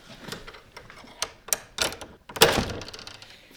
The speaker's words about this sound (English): He uses a skeleton key to unlock the door.